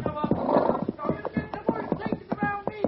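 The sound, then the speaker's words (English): Horse hooves clop in a quick, uneven rhythm as a rider rides through the center of a mob whose voices murmur and shout around them, the sharp hoofbeats standing out above the busy chatter. “I'm riding through the center of them.”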